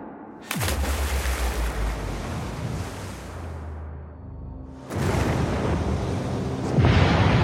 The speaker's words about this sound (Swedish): Väl i vattnet hör han 2 stora explosioner. Ett enormt klot av eld skjuter upp mot himlen och plötsligt är båda fartygen övertända.